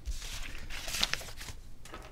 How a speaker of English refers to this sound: Now that I've shuffled my papers in your headphones.